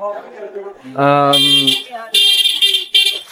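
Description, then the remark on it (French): A car horn blares loudly in three short honks, the first longer and the others close together, following a brief moment of voice at the start, sounded by a driver on an empty street. “Le mec, il y a personne sur la route et il klaxonne quand même, quoi.”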